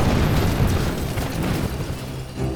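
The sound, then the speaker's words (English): A loud explosion with a deep rumbling roar that holds steady for a couple of seconds, thick with low-end boom and crackling debris, and no voices. “Using the shock of the explosion, I ran up behind one of the figures and stabbed him in the neck.”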